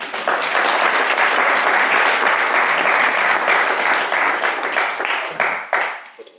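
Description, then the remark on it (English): A crowd bursts into sustained, dense applause, many hands clapping at once in a loud, steady wash that holds for several seconds before tapering off near the end. “Thank you. Clap, clap, clap.”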